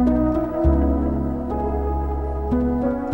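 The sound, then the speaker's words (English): A synth plays a progression of sustained, full chords, shifting roughly every second through about four changes, loud and upfront with a deep low end and no voices. “Okay, so say you've got a chord progression like this.”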